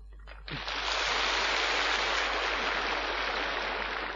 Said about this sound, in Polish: Ale mówię wam, wszyscy bijecie brawa, ale nie radujcie się za bardzo zbyt wcześnie.